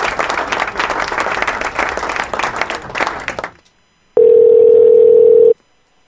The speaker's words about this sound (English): You're gonna win the prize. You get some applause.